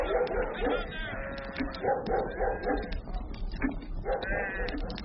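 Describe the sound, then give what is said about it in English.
Shepherds' dogs bark repeatedly in quick bursts while sheep bleat over them on a high pasture, a busy, overlapping clamor that stays loud for the whole stretch. “That the shepherds came running with their dogs and rifles.”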